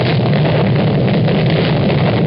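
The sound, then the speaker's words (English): A loud, dense wall of explosions rumbles continuously, the blasts blurring together into one sustained roar with deep low-end boom and no quiet gaps. “You'll notice a lot of explosions in this.”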